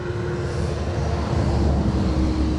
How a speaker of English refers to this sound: hang on, we're going to let this truck go by.